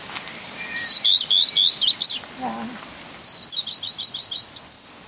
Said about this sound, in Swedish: Hur beskriver ni det här lätet? Det är ju lite varierande sångtoner. Ja. Det är lite blandat så blir man glad utav. Man blir glad? Ja. Det här är en röd stjärt.